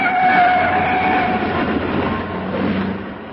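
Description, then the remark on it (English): A powerful car engine roars steadily as the car speeds in a chase, weaving in and out of traffic, a dense, loud rumble with a droning whine running through it and no voices over it. “Now, they're picking up speed, and that's a powerful car they've got.”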